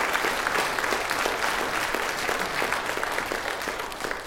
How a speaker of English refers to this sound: Well, let's give the single people here then a congratulatory round of applause for not compromising. Seriously, let's do it with a full heart.